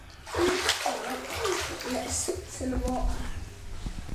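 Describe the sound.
A toy pilot boat splashes and sloshes through bathwater in a steady run of small splashes, with a child's voice babbling faintly underneath.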